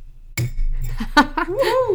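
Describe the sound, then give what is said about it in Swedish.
A bottle of mead being opened, with neither a crown cap nor a can: a sharp glassy click, a few light clinks and scrapes, then a brief squeaky, rubbing sound as the stopper works loose. “Jag kommer öppna det här nu, men det kommer inte låta som ni är vana vid. För det är varken en kapsyl, och det är varken en burk, och det är inte särskilt poppigt.”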